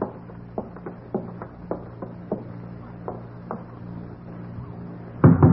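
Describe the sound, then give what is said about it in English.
Nick Carter raps on the door of John Pryor's ground-floor rear apartment in an uneven series of sharp, fairly soft knocks over a low steady hum, then a louder, heavier thump comes at the very end. “Oh, the way you knock gives me the shakes, Nick.”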